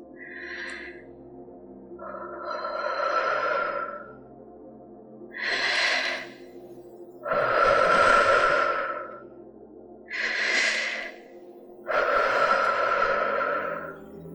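Three slow, deep breaths through an open mouth, each a short airy inhale followed by a longer, breathy exhale, evenly spaced with quiet pauses between.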